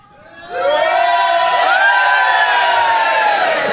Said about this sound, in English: This time, as you come past, you can stand up and cheer.